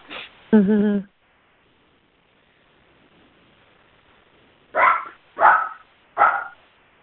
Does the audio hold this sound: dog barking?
yes